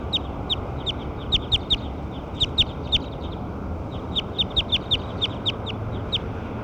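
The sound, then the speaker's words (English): Recorded calls of bird 6: bursts of sharp, high chirps in quick clusters of three to five, repeating over a steady low rumble of background noise. “Those are the calls of bird 6.”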